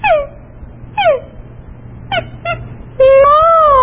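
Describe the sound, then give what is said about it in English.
A voice imitates a dog's whimper as a singing exercise: two high, falling whines, a pair of short yelps, then a longer, louder wavering whine at the end, with no words spoken. “Or actually sometimes with children have an especially difficult time, I have them do a whimpering sound.”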